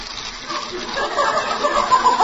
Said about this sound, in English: And the gas stove's squirting water.